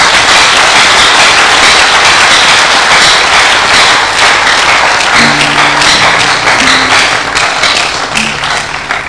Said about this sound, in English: If you are clapping, do it better.